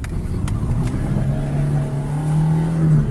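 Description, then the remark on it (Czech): A car engine hums and its pitch climbs gradually as the vehicle pulls away for a drive, with a couple of faint clicks early on and no voices. “Sad ćemo da uđemo ovdje. Da se provozamo.”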